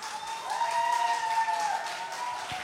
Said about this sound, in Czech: Tak, potlesk pro přicházející kapelu.